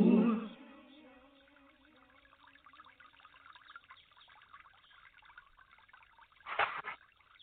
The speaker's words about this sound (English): You just got to love that little trickle water there coming from the Sounds of Living Water.